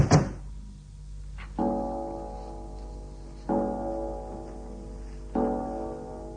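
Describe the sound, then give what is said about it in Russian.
A front door shuts with a heavy thud, followed by three evenly spaced, ringing metallic clunks, with no voices. “На всякий случай закрою входную дверь.”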